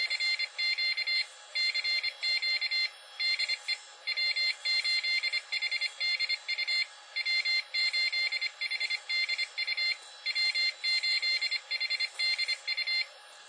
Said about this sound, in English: In fact, here's what my call sign sounds like when I do Morse code at approximately 20 words a minute. We'll just do a quick CQ.